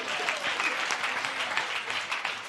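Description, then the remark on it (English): An audience claps steadily, a dense wash of overlapping hand claps that holds at an even loudness for a couple of seconds, with no voice rising above it. “Now, it's one thing to clap for it.”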